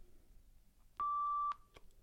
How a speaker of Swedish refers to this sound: Utan du får hålla intryckt och när den startar då piper den en gång. Då kan du släppa.